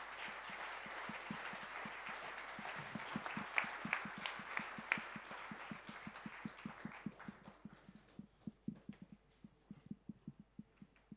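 An audience applauds with dense, steady clapping that gradually thins out into scattered individual claps before fading away. No one speaks during it.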